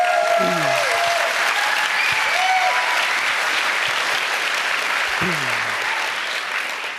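An audience applauds steadily for about seven seconds, a dense wash of many hands clapping with a couple of brief vocal whoops mixed in, easing off slightly at the very end.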